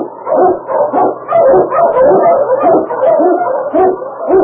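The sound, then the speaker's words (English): King, the Eskimo sled lead dog of Sergeant Preston of the Yukon, barks and yips excitedly in a rapid, continuous string of loud barks with no pauses, sounding eager and energetic. “King, the swiftest, strongest, the Eskimo lead dog, blazes the trail through storm and snow for Sergeant Preston as he meets the talons of the Yukon.”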